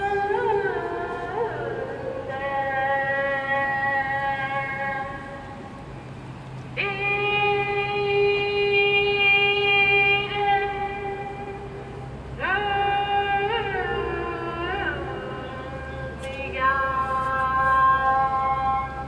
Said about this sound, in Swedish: Det låter som ett böneutrop. Och nu sitter högtalare uppe i belysningsstolparna här.